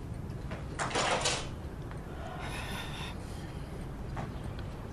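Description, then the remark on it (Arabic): A door is opened for arriving guests with a brief scraping slide, followed a moment later by a softer rattling movement, against steady room noise with no one talking. “ليش لساتك قاعدة؟ ما تقومي تفتحي الباب؟”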